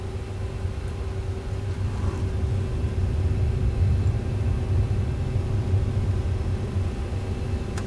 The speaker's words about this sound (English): LM-868 heavy, cleared for takeoff, wind calm. Roger, LM-868 heavy, cleared for takeoff, runway 068. Wind is calm. Brakes are off.